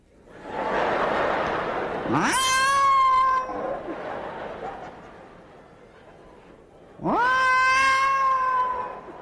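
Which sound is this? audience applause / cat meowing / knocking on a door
cat meowing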